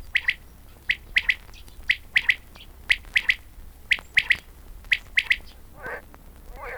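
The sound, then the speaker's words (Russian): A quail calls repeatedly from a field as evening approaches, giving loud, sharp three-note phrases in a steady rhythm, with a couple of softer hissy rustles near the end and no talking. “С поля слышно перепела.”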